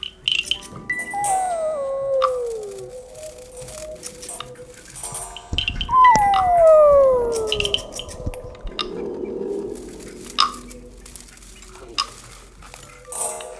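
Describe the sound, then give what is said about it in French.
A lost young wolf in a forest howls twice, each call a thin, high note that slides downward, with a pause of a few seconds between them over a faint crackling, ticking background. “Il s'égara et appela en vain « Ouh, ouh !»”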